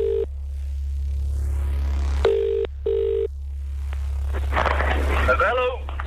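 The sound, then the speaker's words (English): An outgoing phone call for a ticket giveaway rings through a line: a short ring tone, a pause, then a quick double ring, over a steady low hum, before a muffled voice picks up. “All you have to do was answer the phone call saying a certain thing.”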